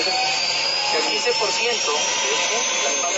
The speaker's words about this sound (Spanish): Esta mañana el recorrido en helicóptero inició así.